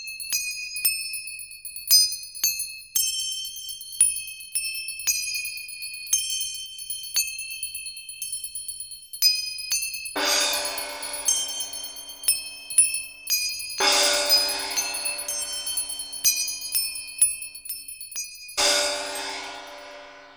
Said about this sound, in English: Examples of Ghanavadya or solid instruments are manjira or cymbals, gongs and bells.